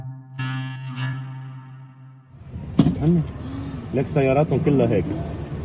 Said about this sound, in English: As we were driving towards the prison, you can see leading to the prison, there's this massive convoy of cars, all people who are trying to get there.